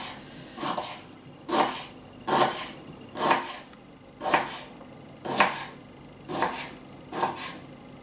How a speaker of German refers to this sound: zum Schluss haben wir noch ein schönes Stück Ingwer, was wir grob auch einfach klein schneiden